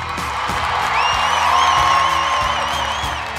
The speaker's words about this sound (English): can I get you to hit that applause button, my friend?